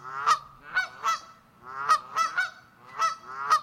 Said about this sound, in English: But the honking sounds of geese are perhaps a little more specialized. Geese are famous for flying in V formations during migration.